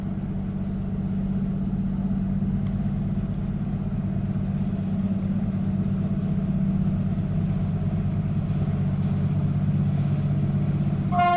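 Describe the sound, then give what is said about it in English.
A deep, loud horn blast from a U.S. Coast Guard cutter leaving a harbor for Lake Superior drones steadily for several seconds, and a brief higher-pitched tone from a horn mounted on the bridge answers right at the end. No one speaks. “The first one was the boat.”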